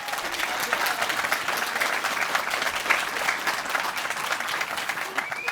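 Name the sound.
audience clapping hands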